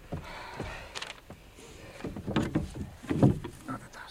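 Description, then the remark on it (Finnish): Oars working a small dinghy: wooden knocks and creaks from the oarlocks mixed with water splashes and dripping, irregular, growing a little louder toward the end. “Minä soudan.”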